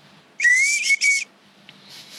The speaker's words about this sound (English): I was toothless for quite a while. But that's how I learned to whistle through my teeth. It's a good skill.